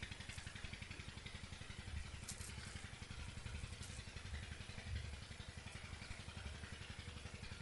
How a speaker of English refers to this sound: bring your mind away from the water pump, if it goes there